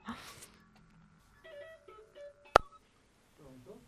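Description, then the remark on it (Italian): Thin electronic phone tones hum and step in pitch as a call connects, broken by a sharp click, then a faint voice starts speaking on the line. “prendiamo la telefonata”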